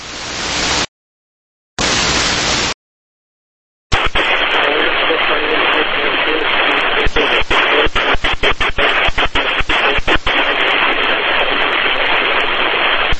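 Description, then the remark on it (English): Loud, harsh radio static during a radio call between Escort 513 plus 2 and ground, hissing across the whole band, cutting in and out in two short bursts before settling into a steady roar broken by rapid crackling clicks. “Now the static's just louder.”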